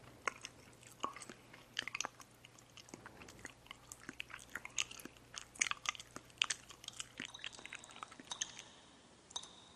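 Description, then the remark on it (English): Moist chewing with frequent sharp snaps and clicks, coming in rapid, irregular bursts for about ten seconds, as a person chews and snaps gum. No one speaks. “Okay, people chewing, clicking their pens, gum snapping, and water dripping.”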